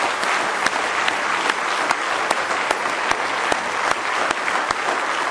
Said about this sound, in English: Why don't you just give Him a good hand clap of praise this morning if you love Him.